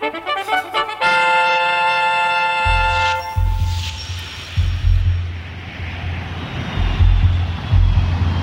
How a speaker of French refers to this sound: Dimanche 29 décembre 1969, loin de l'Alaska, bien loin dans le ciel de la Méditerranée, des avions de reconnaissance de la Marine nationale patrouillent à la recherche de 5 bateaux portés disparus depuis une semaine déjà,